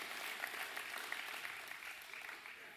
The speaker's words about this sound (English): Round of applause for the kids. Y'all clap for the kids.